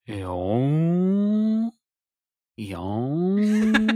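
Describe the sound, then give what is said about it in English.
A voice imitates a whale call with two long, loud, low moans. Each swoops upward in pitch and then holds steady, with a brief silence between them and some crackly noise at the end. “Those whales go...”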